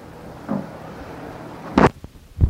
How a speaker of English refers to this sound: The noise of the chair. That thing there, that blue thing. It's a chair.